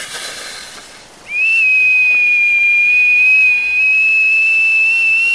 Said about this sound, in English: I knew how to whistle. I put my lips together and blew. The note was long and sustained and quite sharp. It carried high and far over the rooftops of Teikyo. I held it for as long as I could, stopped, and did it again.